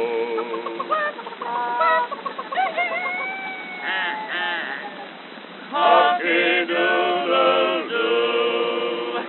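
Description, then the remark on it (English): A man's voice imitates chickens and roosters, producing a run of clucks, squawks and crowing calls in quick succession, loud with no other talk. “And the chickens and the roosters, they go.”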